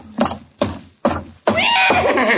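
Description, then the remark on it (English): A horse inside a house, coming out of the kitchen: three heavy, evenly spaced thumps like hooves on a hard floor, then a loud horse neigh that carries on shrill and quavering to the end. “Good heavens, there is a horse in the kitchen.”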